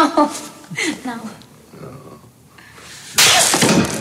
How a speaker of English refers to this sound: Backhanded slap. That's nun abuse.